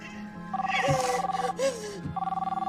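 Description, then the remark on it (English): A telephone rings with a rapid, trilling electronic tone in repeated bursts, clear, while a cat meows over the middle of the ringing. “Wide-eyed she freezes and puts the phone to ear. Hello?”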